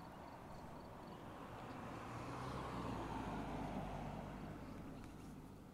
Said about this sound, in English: Hold on a sec. There's a car coming.